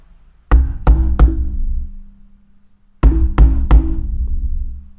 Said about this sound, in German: Und das tat fast physisch weh, das Klopfen.